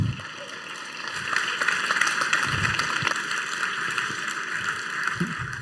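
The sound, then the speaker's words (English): An audience applauds steadily to welcome the next speaker of a talk on making space exploration cheaper, a dense crackle of many hands clapping that holds at an even, fairly loud level for several seconds with no voices. “Please give a warm applause to our next speaker.”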